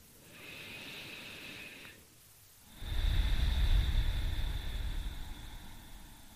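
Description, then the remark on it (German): A single slow, deep breath: a hissing intake through the nose, a short pause, then a longer, louder, airy exhale through the mouth that trails off. No talking. “Wir fangen an und nehmen ein paar tiefe Atemzüge. Und atmen durch die Nase ein und durch den Mund aus.”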